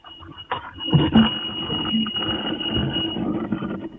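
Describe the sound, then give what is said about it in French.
A doorbell that will not stop ringing sounds without a break, a steady, high-pitched electronic tone holding for the whole stretch over a low rumble of background noise and a few clunks. “Sonnette, il a fini plus de arrêter de sonner.”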